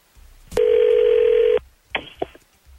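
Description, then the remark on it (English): A telephone call placed by the 102.9 The Wolf morning radio show: a click, then one steady, mid-pitched ring tone lasting about a second, followed by a few sharp clicks like the line being picked up. No one speaks. “We're sorry to call you so early, but we do the morning show here.”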